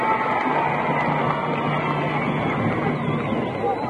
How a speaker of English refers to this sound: I see some of the boys cheering over there, too.